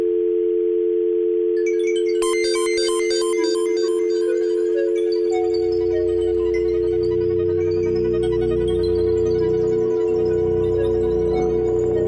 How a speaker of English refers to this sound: I see the dial tone.